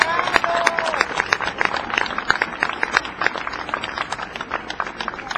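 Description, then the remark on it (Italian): An audience gives another round of applause, steady and dense, many hands clapping at once, holding a fairly even loudness for several seconds with no voices on top. “Mauro, un altro applauso perché se lo merita veramente.”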